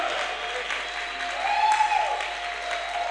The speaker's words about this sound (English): I want you to clap and shout in victory by the grace of God in the name of Jesus Christ.